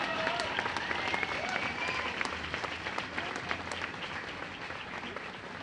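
A crowd applauds steadily, dense overlapping claps filling the whole clip at an even loudness, with a few faint cheers and whistles rising above the clapping.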